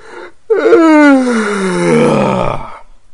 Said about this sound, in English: Feels good to yawn, doesn't it?